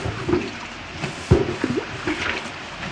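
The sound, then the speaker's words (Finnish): Water from a bucket is thrown onto a large, hot, wood-fired sauna stove, hissing and sizzling into steam, with a few wet slaps and a sharper burst midway over a steady rush. “Heitättekö sitten koko tämä sangollisen vettä sinne?”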